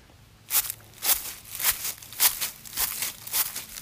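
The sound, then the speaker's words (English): Footsteps crunch through dry leaves among trees in a steady walking rhythm, about seven crisp, crackly steps with a bright, high-pitched rustle on each one, with no voices. “But, some leaf crunching there for you.”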